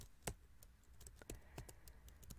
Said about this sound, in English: Well, get to typing, babe. You know the deal.